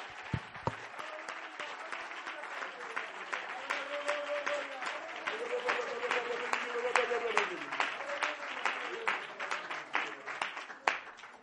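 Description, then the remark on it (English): An audience claps hands unto Jesus in sustained, dense applause lasting several seconds, with a few voices calling out over the steady rattle of clapping before it tapers off at the end. “Would you clap your hands unto Jesus one more time?”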